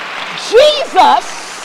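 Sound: audience clapping hands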